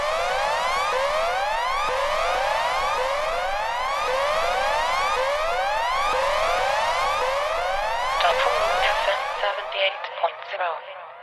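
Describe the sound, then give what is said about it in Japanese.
A loud, shrill electronic siren jingle, made for use before typhoons and disasters, with rapid, repeating upward sweeps, continuous for about nine seconds before breaking into a brief jumble of tones and fading out. No one speaks. “サイレン、 サイレン、 ジングル”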